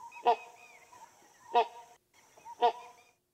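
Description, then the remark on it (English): Three loud, deep grunting calls from a great hornbill, each a short harsh honk-like burst, spaced about a second apart, with a faint steady background hum and no talking. “Just sort of a series of deep, what would you call it, grunts?”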